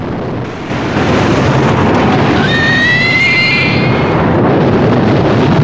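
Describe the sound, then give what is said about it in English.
Heavy stormy seas crash and roar as spray thunders over a ship's deck and gushing water sweeps away a cage containing a pig: a loud, continuous rush of water and wind, with a brief high, wavering squeal cutting through midway. “Spray thunders over the Bounty, and a cage containing a pig is swept away by gushing water.”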